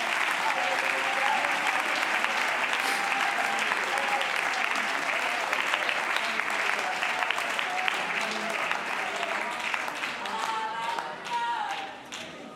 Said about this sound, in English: Can you clap your hands and thank the Lord for his presence right now?